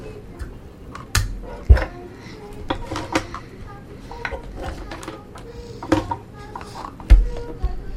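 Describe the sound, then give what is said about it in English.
Plastic toy kitchen dishes and pans clatter and clink as someone rummages through them for a toy waffle maker, a busy run of light knocks and a few sharper bangs. “Oh, here it is. I need the waffle maker.”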